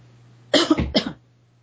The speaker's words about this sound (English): excuse me, I've got a cough.